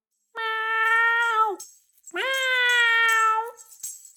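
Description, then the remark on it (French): Gros Chat, a cat that has smelled fish, meows loudly twice, each call long and drawn out with a drooping finish, separated by a brief pause. Insistent, with no other sounds. “Il a senti le poisson, se lèche les babines, miaule très fort, comme la fois où il a senti les sardines.”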